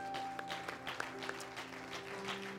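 A crowd at a church service claps together in a dense, steady wash of applause with a few sharper claps standing out, while a sustained musical tone hums underneath.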